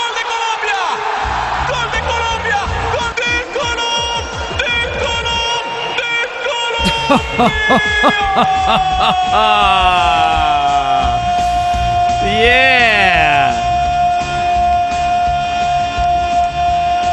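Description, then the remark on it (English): A loud, excited goal call for a Colombia national team goal at the soccer World Cup, drenched in echo, with long stretched shouts and swooping pitch over a steady techno beat and synthetic tones, sustained for the whole stretch. “whenever Columbia scores a goal in a national team match in the World Cup, they do the same thing. They use techno and an echo chamber.”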